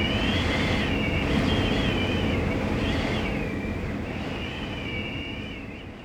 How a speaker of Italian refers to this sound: Detto questo, si alza di nuovo il vento e Sofia ed il cuoco pasticcione vengono travolti da un mucchio di fumo.